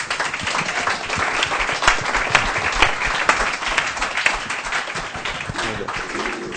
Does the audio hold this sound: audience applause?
yes